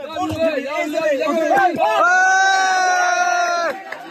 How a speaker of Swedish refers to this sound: Applåder och jubelrop när en kvinna vid liv sakta dras ut genom en springa i rasmassorna.